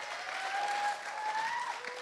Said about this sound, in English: That should not get enough, a round of applause.